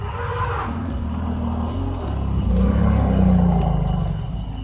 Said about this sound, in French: Donc des éléphants, pourquoi ce sont les éléphants dont il faut le plus se méfier finalement? Parce qu'ils sont en famille, toujours, en groupe. Il y a les petits, ils voient très mal, donc ils se méfient et en fait ils nous repèrent à l'odeur.